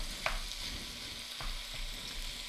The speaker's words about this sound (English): Now I'm putting in a pound. This is about a pound and three quarter. Like I said, the recipe calls for 2 pounds, but I'm going to put in what I have in the way of ground, and we're going to brown this real quickly.